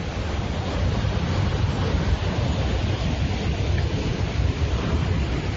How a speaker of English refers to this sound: I'm at the Kiwanis Waters Surf Club. There's no chaplain here. Just waves.